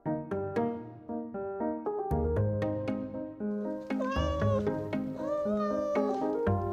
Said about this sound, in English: Listen, what's that? Meow, meow. It's a cat.